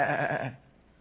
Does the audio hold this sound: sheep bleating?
yes